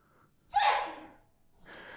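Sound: sneeze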